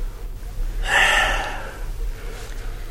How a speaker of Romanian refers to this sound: Stai să respir. Uite un fragment din Boris Godunov.